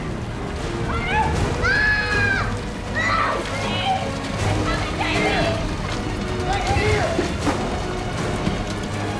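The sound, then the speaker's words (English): Continuous water sloshing and splashing as people wade shoulder-deep through it, with voices calling out over the churning water throughout. “With … and …, they're shoulder deep in water.”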